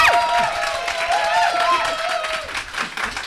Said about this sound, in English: If you think that Pip deserves to win this round, please give it a big round of applause.